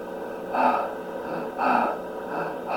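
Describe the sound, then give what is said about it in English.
A person imitates another person's sped-up, labored breathing: three loud, raspy breaths in a steady, hurried rhythm, with no talking. “breathing had sped up to a faster rate, sort of like this.”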